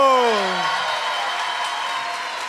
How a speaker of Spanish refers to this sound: Un fuerte aplauso para amigo número 4.